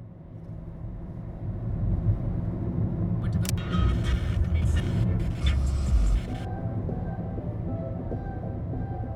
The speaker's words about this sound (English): I think I'm in the trunk of a car.